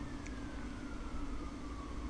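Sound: siren passing outside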